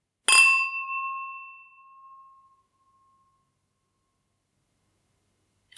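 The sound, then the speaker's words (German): Wine glasses clink together once, sharply, at a wine tasting, then ring on with a clear, pure tone that slowly fades over a few seconds into silence. “Die Gläser, die klingen halt auch ewig.”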